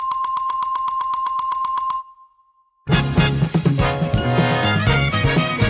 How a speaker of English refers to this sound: And for the correct answers, Ed went to a hardware store and tested a bunch of different doorbells before recording the perfect option.